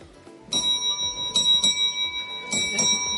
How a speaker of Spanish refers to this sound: Tenemos un timbre, o sea, gigantesco encima.